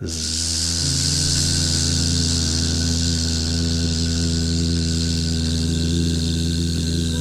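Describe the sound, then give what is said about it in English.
A voice hums a steady buzzing tone imitating a bee during a bee-breathing exercise, held loudly and continuously on one long exhale after a deep inhale through the nose, with a faint airy hiss behind it. “And now this time on your exhale, make the sound of a buzzing bee.”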